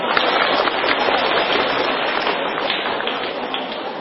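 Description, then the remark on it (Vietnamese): A crowd in Vietnam claps steadily for about four seconds at the welcoming of a jade Buddha statue, a dense, even wash of applause that stays loud and full throughout with no voices rising above it. “Xin một tràng pháo tay nữa.”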